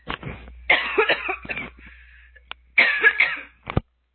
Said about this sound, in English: Hang on. Sorry, I've got a cough again.